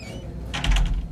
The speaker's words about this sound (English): After the staff meeting, we shut the door to our office